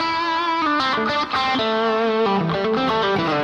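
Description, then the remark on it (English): A distorted electric guitar plays a short phrase with a clear string bend, the other strings controlled so they don't ring out, the pitch sliding up and settling as notes sustain loudly and steadily, with no one speaking. “So as I'm doing this bend, that's what I'm doing is I'm controlling all these other strings.”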